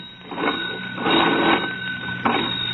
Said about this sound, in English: Will you please tell Mr. Peabody to hoist the receiver and ring old man Douglas's? Abner, hoist and ring old man Douglas. Report to Mr. Edwards. I've done hoisted and I'm now ringing.